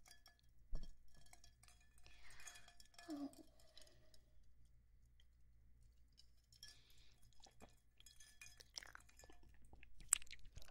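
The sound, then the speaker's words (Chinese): Glasses clink together softly a few times in a toast over a bottle of liquor newly released by the speaker's company. Light, bright taps spread across a quiet stretch, with faint handling and mouth sounds between them. “明天就会上市了，要不要一起喝一杯看看呢？来嘛，干杯。”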